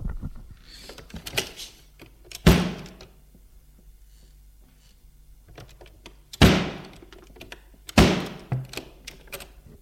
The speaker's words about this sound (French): Il entend du bruit. Des portes qui claquent.